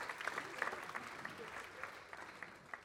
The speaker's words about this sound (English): Thank you, guys. Let's give our volunteers a round of applause.